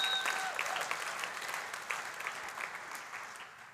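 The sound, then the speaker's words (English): A church audience applauds the Lord during a sermon, a steady, dense wash of many hands clapping at a moderate level, with a few brief high whistle-like tones at the start before the clapping slowly tapers. “Come on, give the Lord a huge round of applause.”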